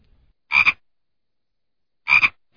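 A frog croaks twice, each call a short raspy burst about a second and a half apart, fairly loud against silence.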